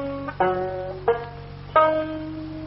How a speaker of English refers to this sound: When I pick My Dog Has Fleas on the banjo like that, Miss Brooks, we spring our first humorous anecdote.